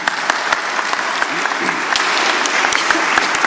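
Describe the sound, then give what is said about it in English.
Steady applause from an audience for a couple married almost a year fills the whole stretch, a dense wash of many hands clapping at once with a few sharper claps standing out. “Anyways, yeah, you can clap.”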